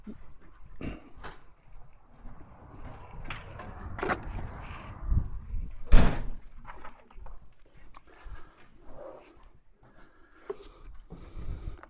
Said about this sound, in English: Let me close the door.